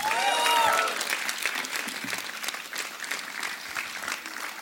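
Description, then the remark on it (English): A crowd claps steadily for a band, a dense wash of applause with a few whistles and cheers rising at the start before settling into even clapping. “A big round of applause for them again.”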